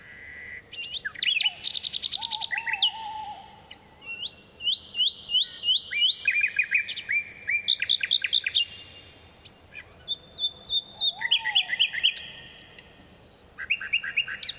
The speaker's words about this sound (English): This nightingale's song echoes across a deep valley in Dorset, England, and a tawny owl joins in. Richard Margoshis made this recording at Funtmel Magna in 1982. It's from the British Trust for Ornithology Nightingale Appeal CD.